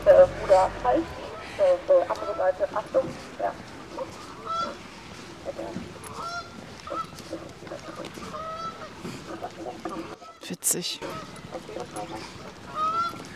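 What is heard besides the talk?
geese honking loudly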